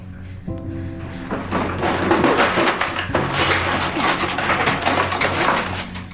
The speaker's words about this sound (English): She opens a drawer under the kitchen counter and rifles through utensils.